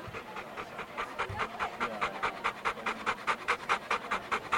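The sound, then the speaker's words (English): A dog named Hero, from North Jersey, groomed for showing at the Westminster dog show, pants in a quick, steady rhythm of breathy huffs, continuing throughout with faint background noise and no talking. “The dog's name is Hero, and he's from North Jersey.”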